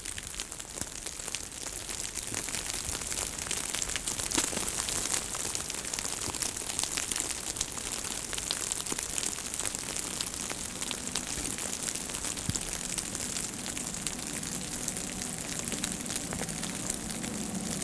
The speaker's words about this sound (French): Et on entend tout à fait autre chose. L'écoulement de la neige qui fond est ici beaucoup plus marqué.